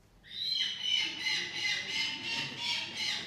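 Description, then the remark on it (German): A falcon at a falcon medicine clinic in the United Arab Emirates calls in a loud, harsh, shrill series of rapidly repeated notes that pulse steadily for several seconds, with no one talking. “Vor der Rezeption sitzen die Patienten stoisch auf einer 20 cm hohen Holzstangenkonstruktion, die mit grünem, stacheligem Plastikrasen überzogen ist.”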